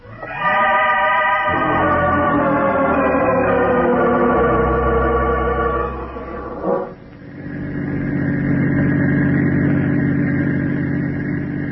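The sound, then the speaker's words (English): A car engine drones steadily and loudly as the vehicle drives, its tone shifting partway through before settling into a lower, even hum. No one speaks. “Keep driving.”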